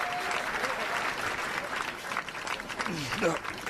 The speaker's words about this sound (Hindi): अरे वाह, तालियां बजाओ, तालियां।